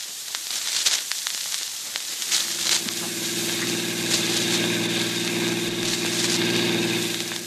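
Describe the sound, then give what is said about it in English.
A car engine starts up amid a couple of seconds of rattling clicks and hiss, then settles into a steady, low, rumbling idle that holds evenly to the end, with no voices. “Oh, for the life of me, Dick, I can't see why I always have to drive the car.”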